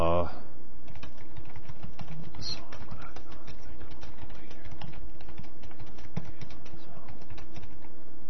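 Rapid typing on a computer keyboard, with a steady stream of irregular key clicks that continues for the whole stretch over a low background hum.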